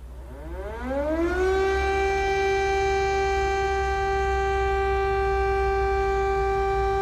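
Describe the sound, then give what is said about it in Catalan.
An air raid siren in Ukraine, on the second day of the war, winds up from a low growl to a loud, steady wail and holds that single sustained tone, with no voices. “I després el so que precedeix l'estrèpid so del pitjor.”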